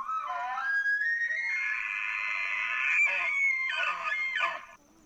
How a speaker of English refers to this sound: There are apps you can download that pretty closely mimic the sound of real elk. Ready? Mm-hmm. Okay, so this is a challenge bugle.